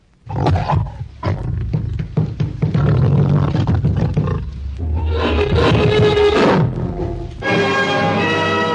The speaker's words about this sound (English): When threatened, the gorilla will rise to full height, snarl and beat his chest with clenched fists, following with a roar. Something like this.